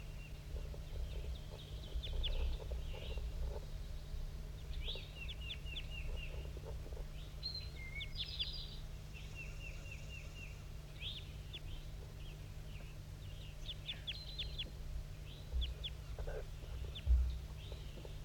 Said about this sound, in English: I'm recording at 7:18. That wild male is still up in the top of the dead pine, giving flight calls.